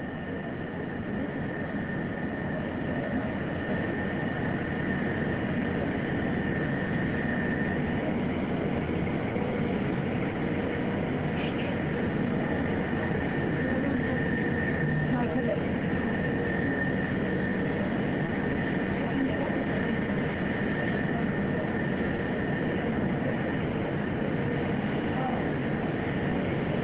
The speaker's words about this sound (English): Boat's getting closer now. Again, that one that's right up against Orion, those are the divers that will go in to the spacecraft to check on each of the astronauts.